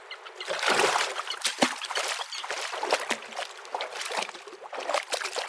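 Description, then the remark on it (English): Steady splashing and sloshing as people wearing goggles and snorkels walk one after another from the shore into shallow sea water, with irregular bursts of churned water and trickling drips running continuously throughout. “One after the other, we put on our goggles and snorkels and walk into the sea.”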